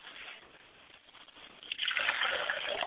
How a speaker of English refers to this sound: I like to pour a glass of water for my father's spirit, and I say, Ashe.